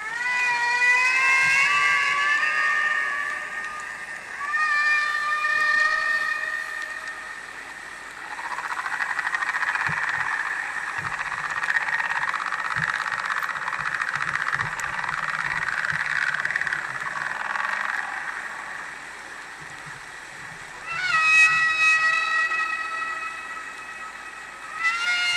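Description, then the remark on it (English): Humpback whale song from a 1970 album, produced by marine biologist Roger Payne: long, wavering tonal moans with rich harmonics, rising and falling in pitch, joined by a sustained droning call and occasional low clicks, with no talking. “Those sounds, those vocalizations, are taken from an album called ….”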